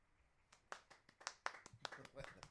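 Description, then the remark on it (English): Sparse, polite applause: a handful of scattered hand claps at an irregular pace, fairly quiet, with a faint murmur of voices in the background. “It's very polite applause.”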